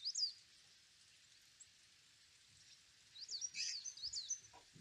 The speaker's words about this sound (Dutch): Voor je op de grond huppelen een paar vogeltjes rond. Kijk door de verrekijker naar de musjes.